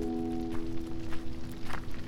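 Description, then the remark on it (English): A handful of soft footsteps land at an unhurried, slightly uneven pace, faint at first and growing a bit firmer, over a steady low humming drone. “You hear footsteps approaching.”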